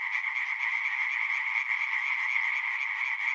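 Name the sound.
frogs croaking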